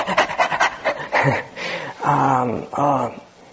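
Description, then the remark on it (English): A person imitates a dog panting, quick rhythmic huffing breaths, followed by a few drawn-out whiny vocal sounds, fairly loud with no other talking. “we're the dog duty ascetics, and what will be the result of our practice?”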